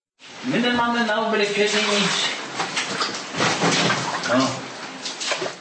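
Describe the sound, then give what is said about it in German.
An elderly man wades through knee-high floodwater inside his house in a flood disaster area, the water sloshing and splashing steadily with each step. A voice speaks briefly at the start before the splashing dominates. “Der ältere Mann wartet durch sein Haus. Das Wasser steht immer noch kniehoch.”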